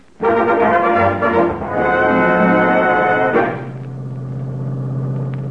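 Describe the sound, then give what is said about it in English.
A car engine roars loudly for a few seconds with a rich, buzzing tone, then settles into a steadier, lower hum as the car is driven along a boulevard toward the races at Santa Anita. No one speaks. “I got in my car when nobody was looking and headed for Santa Anita.”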